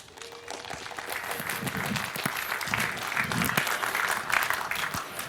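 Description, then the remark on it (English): An audience applauds steadily, many hands clapping in a dense, even wash that swells slightly toward the end, with faint murmurs and a few sharper individual claps standing out, welcoming a talk on the Reticulum networking project. “So I would like to hear a warm round of applause for Reticulum, Unstoppable Networks for the People,”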